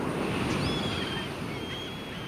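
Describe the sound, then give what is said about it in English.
A steady, dense roar of ocean surf on the coast at Newport, Oregon, fills the scene without pause, with faint thin high-pitched seagull cries drifting above the wash of the crashing waves. “So next time you're at the coast enjoying the roar of the surf and cries of the seagulls, rest assured there's sound aplenty under the crashing waves as well.”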